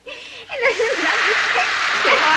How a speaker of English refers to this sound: They walk Melanie to the bathroom sink and drench her with the shower hose.